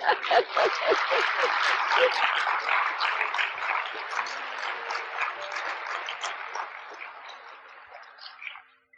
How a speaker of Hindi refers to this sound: हाँ खूब तालियां बजाओ लेकिन प्रैक्टिकल भी बजाना।